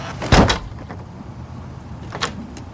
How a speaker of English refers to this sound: slams the door